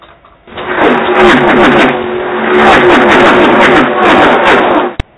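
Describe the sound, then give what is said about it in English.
A race car engine cranks and fires up, then revs hard in loud, throaty bursts for several seconds before cutting off abruptly. No voices are heard. “start your engine!”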